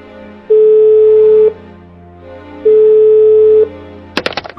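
A phone line rings out twice for a call made from a hotel, each steady electronic tone lasting about a second with a short pause between, then a brief clatter as if the receiver is picked up.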